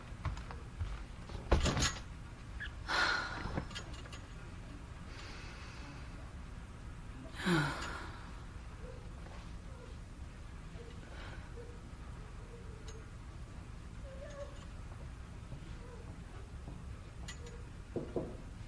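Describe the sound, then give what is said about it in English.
A few sharp knocks at a door, spaced apart, followed by the rustle and creak of the door moving. “It's really nice that you've knocked, but shouldn't you wait until I've let you in?”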